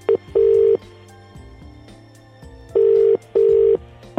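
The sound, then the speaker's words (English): A telephone ringing tone sounds in a clear double-burst pattern, two steady electronic pulses, a pause, then another pair, over a faint low hum with no voices. “I will ring you back, but if you could just literally give the phone straight to Ryan”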